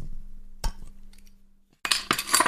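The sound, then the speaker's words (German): Glasses clink together in a toast: one sharp chink, a short quiet pause, then a bright flurry of several ringing clinks overlapping near the end. No one speaks. “Prost, Papa. Prost, Doktor.”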